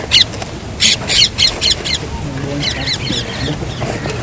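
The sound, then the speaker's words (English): Birds call outdoors in Kamban, in Braj, in quick bursts of bright, sharp chirps, several clustered near the start, then a run of repeated, patterned calls, over a low steady background murmur. “Everyone is happy. The birds are happy.”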